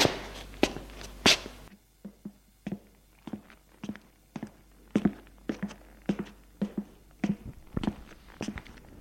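A steady series of soft footsteps as a woman walks along an empty corridor, trying not to make noise, evenly paced at about two steps per second, with a few sharper taps near the start and no voices.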